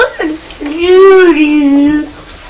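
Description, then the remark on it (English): A child's high voice imitates a cockerel crowing: a short opening note, then a long, loud, drawn-out call that rises, wavers and trails off, heard on its own. “What does the cockerel say?”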